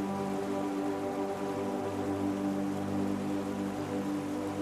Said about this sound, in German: Die Siedlung hinter uns gelassen, versiegt die Ruhe in einem immer lauter werdenden Rauschen. Ein kleines Flüsschen scheint sich zu uns gesellen zu wollen.